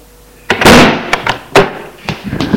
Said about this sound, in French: furieux, entre dans sa chambre. Ferme la porte en la claquant.